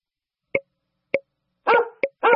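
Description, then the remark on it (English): A dog barks twice in quick succession, loud, after a few short, soft popping clicks spaced out in otherwise quiet surroundings. “D is for dog.”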